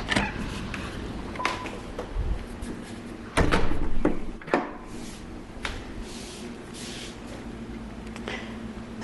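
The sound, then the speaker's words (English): A door is handled with a few sharp knocks and thuds, the loudest around the middle, followed by scraping and creaking as it opens and shuts amid a low rumbling background, as someone goes back inside from a windy poolside. “Let's see, where's the door?”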